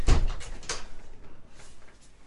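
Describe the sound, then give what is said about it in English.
A door is shut against the wind with a solid thump right at the start, followed by a couple of lighter knocks and rattles, before fading into quiet background noise, with no one talking. “It was windy and I had to close the door.”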